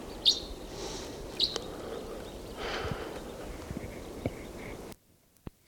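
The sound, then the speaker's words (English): A male crossbill sings in short bursts: two sharp, high chirps stand out early, with fainter twittering notes over a steady background hiss before the sound cuts to near silence. “And right now I hear a male in song.”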